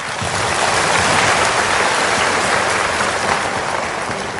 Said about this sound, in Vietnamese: Nhưng mà trước hết là xin đại chúng cho em tràng pháo tay